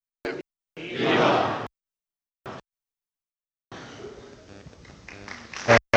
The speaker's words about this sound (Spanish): Esos vivas y aplausos.